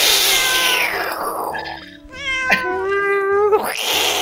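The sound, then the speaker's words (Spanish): A person mimics a cat as a greeting, letting out a long, falling meow followed by a second drawn-out, wavering one that rises at the end, loud with no talking. “¡Miau!”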